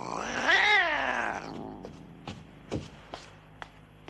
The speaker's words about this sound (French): Que lui as-tu fait? Je l'ai entendu miauler. Il y a juste que ton Missy Gris s'est pris la queue dans la porte.